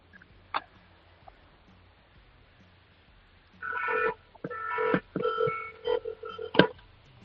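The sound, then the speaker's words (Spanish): A car horn honks in a series of uneven bursts, one longer blast followed by several shorter ones, sounding tinny and muffled through a mobile phone held up to the horn out on the street. No one speaks. “No, mira, a ver, dale un toquecillo, a ver, acerca bien el móvil al claxon, a ver si se oye, venga.”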